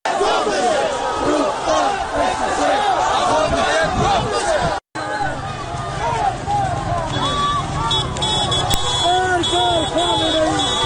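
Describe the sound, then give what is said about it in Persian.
A large crowd of protesters at a night-time street protest in Iranshahr, Iran, chants and shouts continuously, many voices overlapping in a dense, loud roar, with a brief cut near the middle and a sharp high whistle-like tone later on. “در اینجا صدای معترضان را در ایران شهر می‌شنوید.”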